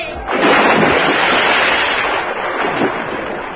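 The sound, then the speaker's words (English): A loud gunfire sound effect: a dense, continuous crackling roar that bursts in almost at once and holds steady for over three seconds, with no voices. “We aim to shoot a fire to kill. Bang, Bibberco. Bang. Get down.”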